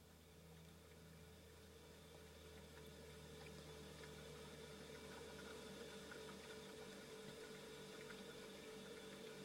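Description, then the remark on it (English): A refrigerator hums steadily throughout, a constant low mechanical drone with a faint whirring, even hiss above it, quiet and unchanging, with no voices. “Gently introduce our background sound of the hum of a fridge.”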